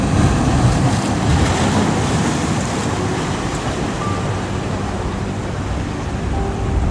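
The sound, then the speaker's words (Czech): Steady ocean surf rolls on throughout, a continuous low, rushing roar of waves with a soft windy hiss on top and no voices. “A vlna nese odpověď.”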